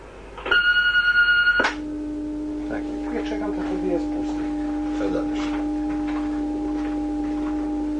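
An answering machine gives one loud, steady electronic beep lasting about a second, then cuts off, leaving a low continuous hum with faint scattered murmurs.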